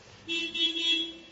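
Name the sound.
car horn honking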